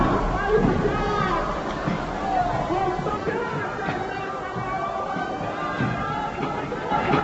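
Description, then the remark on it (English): A large crowd at a labor organization rally roars and cheers for John L. Lewis in a dense, unbroken wash of voices, holding a steady, fairly loud level with no single voice standing out. “The crowd's going wild because the time is long overdue for this kind of labor organization effort.”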